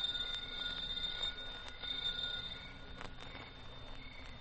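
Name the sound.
doorbell ringing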